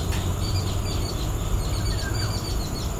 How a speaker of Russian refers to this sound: Единственное, что я нашел, это вот это вот видео милое, где две тупаи, сидя на веточке, писком общаются друг с другом.